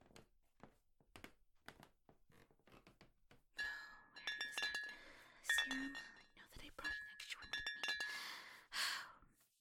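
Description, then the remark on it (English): Soft breathy sighs give way to a run of bright glass clinks and clatters as someone gets a glass of water in a kitchen, several ringing tones scattered irregularly over the last few seconds. “Could I trouble you to ask where the kitchen is so that I could get a glass of water?”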